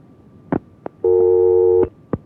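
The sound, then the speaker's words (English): A telephone busy signal over a phone line at radio station KFAR: a few sharp clicks, then one steady electronic tone lasting under a second, followed by another click. No one speaks. “That one gave up. So until we get the phone lines working here, we'll do this.”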